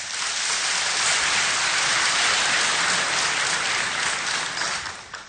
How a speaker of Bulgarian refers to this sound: Заслужени аплодисменти!